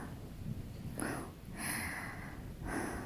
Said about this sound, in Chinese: 姐姐你怎么样？感觉有点喘不过气儿来了。 哎呦喂，你慢点喘气，深呼吸。